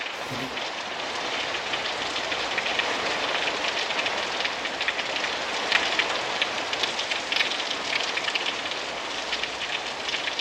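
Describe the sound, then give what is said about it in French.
Steady rain falls continuously, a dense hiss of drops pattering on a surface with scattered brighter taps, fairly loud, with no voices present. “Et pendant ce temps-là, la pluie continue à tomber.”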